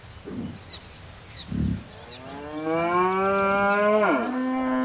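A cow lets out a long, loud, drawn-out moo that shifts in pitch near the end, preceded by a couple of soft low thuds, with faint bird chirps in the background.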